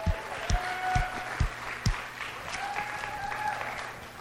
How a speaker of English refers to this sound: And part of that applause was for yourself because we're all going to help clean up, pack up, and there's a lot that needs to be taken care of.